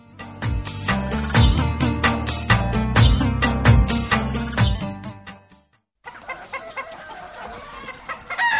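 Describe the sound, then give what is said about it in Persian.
A hen clucks loudly in a rapid, steady run of short clucks. After a brief pause, quieter and scratchier clucking carries on. No one speaks. “دقیقه قدقد نکو، پای تواز میکنم”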